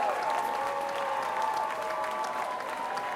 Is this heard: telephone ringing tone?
no